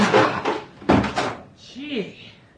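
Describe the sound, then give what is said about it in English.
The locked door of a flat is broken down with two heavy crashing impacts in quick succession, followed by a brief vocal exclamation as the noise dies away. “Is the door locked? Yes, we've got to break it down.”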